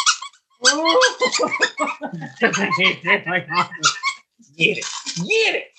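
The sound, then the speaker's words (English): A dog named Hank chews a squeaky toy during a show, setting off rapid, high-pitched squeaks in dense, irregular bursts with a couple of brief pauses; the squeaking is fairly loud and continues throughout. “He's gonna chew on that for the rest of the show.”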